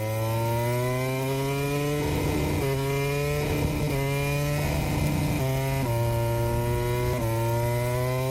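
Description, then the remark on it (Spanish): A Yamaha MotoGP racing motorcycle engine, allegedly being sabotaged by rider Maverick Viñales, drones loudly and steadily, broken by about four sharp throttle blips that briefly jump and dip its pitch. No voices are heard. “Supongo que son esos acelerones que se escuchan, son motos muy sensibles.”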